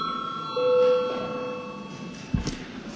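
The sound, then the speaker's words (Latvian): A bell in the chamber of the Saeima, the Latvian parliament, rung after a vote result is announced, sounds as a steady, high ringing tone with a brief stronger note early on, followed by a soft thump and faint shuffling. “Lūdzu zvanu.”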